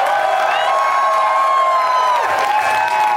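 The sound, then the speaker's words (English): A large live audience in Boston cheers and applauds loudly and steadily, a dense wash of clapping with excited shouts and whoops rising above it, sustained for the whole few seconds. “And thank you to everyone, all my Boston friends, for coming out today. You're an amazing crowd.”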